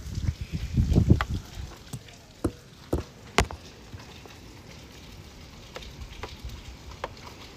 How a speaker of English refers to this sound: Yeah, just listen to the rain, guys.